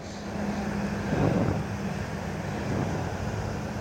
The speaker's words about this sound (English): There goes one of the dump trucks.